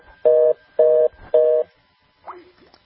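Three loud, steady telephone tones, heard when calling a phone number, sound in an even rhythm, each about a third of a second long, followed by a brief, fainter chirping blip.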